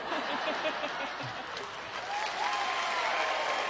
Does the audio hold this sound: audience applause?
yes